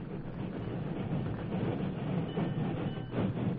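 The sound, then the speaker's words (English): A train rumbles along the P&K railroad track a few miles from town, a steady, dense clatter of wheels that swells slightly toward the end as it draws nearer, with no voices. “They had started the fire when they heard the train approaching.”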